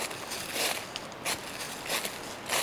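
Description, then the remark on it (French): Footsteps crunch through dry dead leaves in a forest at a slow, steady pace, about four rustling steps, moderately loud, with no voices. “Sur les feuilles mortes”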